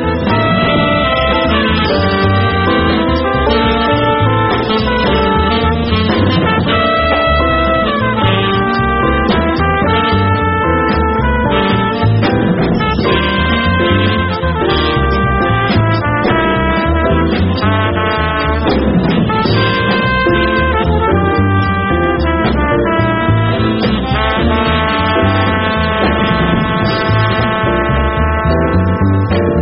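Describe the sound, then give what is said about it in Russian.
A jazz quintet recording with trumpet, tenor saxophone, piano, double bass and drums, recorded by Rudy Van Gelder on 27 December 1962; bright, sustained trumpet and saxophone melodic lines over a steady rhythm section, loud and continuous for the whole stretch with no talking. “То, что вы услышали, звучит как ….”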